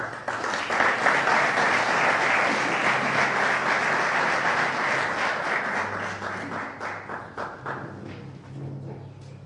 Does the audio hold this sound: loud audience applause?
yes